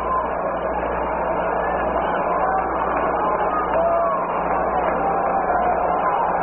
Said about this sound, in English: Big crowd here tonight at Yankee Stadium watching the ball game.